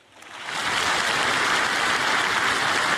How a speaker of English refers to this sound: Rousing applause. Rousing applause for Lieutenant Governor Jeanette Nunez speaking at PCC a week ago.